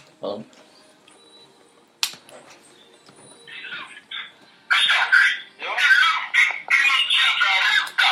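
A bird squawks: first a few short, scratchy calls, then loud, harsh screeches that run almost continuously through the second half, with a sharp click early on.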